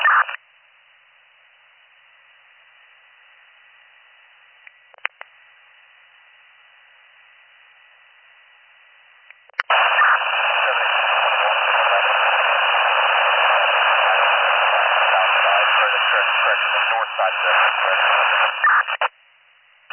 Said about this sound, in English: Talking to me, you were all static.